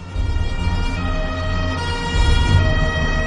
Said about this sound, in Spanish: El 29 de septiembre de 1984 se oyeron las sirenas de los coches de policía resonando por las calles de Palermo.